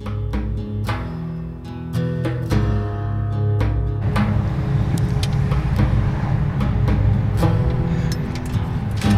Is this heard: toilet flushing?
no